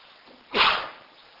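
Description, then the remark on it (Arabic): A single sharp sneeze bursts out, loud and brief, rising suddenly then trailing off, with only a faint hush before and after. “يرحمكم الله”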